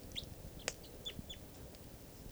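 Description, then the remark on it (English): A small bird perched on the top rung of a net at a camp among low deciduous trees gives a few faint, high, short chirps spaced irregularly over a steady low background rumble, with one sharper click-like note among them. “This is the bird that's on the net.”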